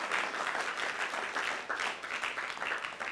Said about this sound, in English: You clap if you want. It's a good place to clap, actually.